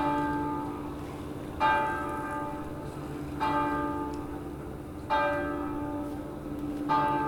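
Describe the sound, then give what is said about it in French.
A large bell tolls four times at a slow, steady pace, each strike ringing out with rich harmonics that linger and overlap before the next one. No voices are present. “La cloche.”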